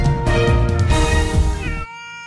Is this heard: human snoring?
no